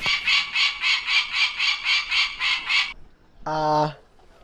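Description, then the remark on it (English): A peregrine falcon plush toy at Mohonk plays the bird's harsh, rapid kek-kek-kek call, about a dozen loud scratchy notes in steady rhythm, followed after a short pause by one higher, wailing note. Clear, with no talking. “It is the peregrine falcon.”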